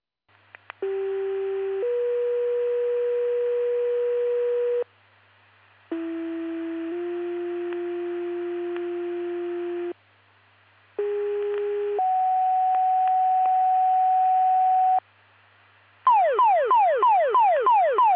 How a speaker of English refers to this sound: Attention Oglesby Fire Department, this is your full still pager test, testing for Oglesby Fire and EMS, Utica and Seneca Fire Departments. Please disregard the tones and reset your pagers. End of test.